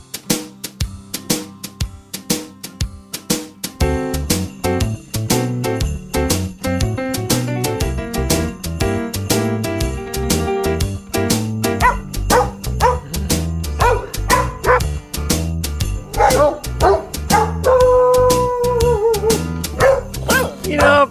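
Dogs bark out a jingly Christmas melody over a bouncy musical backing, the barks pitched and sequenced into a tune, with rapid rhythmic yips and a few whining notes near the end.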